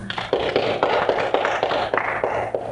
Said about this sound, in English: Plug one ear, shut one ear, and the leader will read Luke 2, the story of Christmas. Okay? When she's done reading it, applaud.